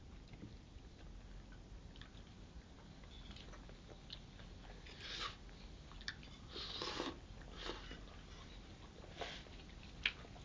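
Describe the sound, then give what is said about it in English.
Quiet slurping of tea, a few short wet sips and sucking noises spaced irregularly over a low background hum, with one sharper little click near the end. “Shut up, it's splendid tea. Yes, boy. Must be how slurping noises.”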